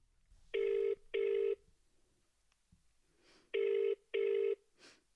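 The ringback tone of an outgoing phone call: two double rings, each a pair of short, steady buzzing tones at a mid pitch, separated by a pause. No one speaks over them.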